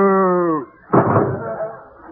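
A short, low moo with a steady tone that dips slightly in pitch, then stops and is followed by a loud thudding slam.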